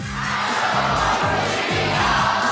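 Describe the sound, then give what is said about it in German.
A crowd of at least 2,000 people at Schloss Hof, gathered for the opening of the new water trail, roars and cheers steadily for a couple of seconds in answer to a greeting, a loud, dense wall of voices with rising shouts in the mix and no single speaker standing out. “Das sind ja mindestens 2000. Ich werde es ja mal kurz begrüßen. Hallo Publikum!”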